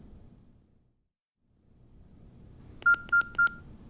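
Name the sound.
telephone number being dialed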